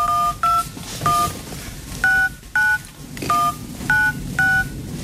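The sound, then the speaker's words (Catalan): A run of about nine short electronic keypad beeps on a mobile phone, each a two-tone chirp, pressed one after another at an uneven pace to pick out the Happy Birthday melody, clear with no voices. “Jo sé tocar el cumpleaños feliz con los numeritos.”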